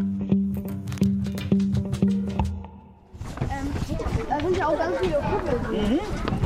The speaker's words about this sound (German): Trampeln, stapfen, treten. Die Kinder der 3B laufen sich unten am Müllberg warm.